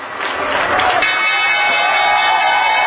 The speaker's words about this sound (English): Those cheers at the closing bell might very well be cheers of thanks that the week is over.